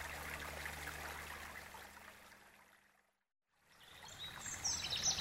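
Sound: water trickling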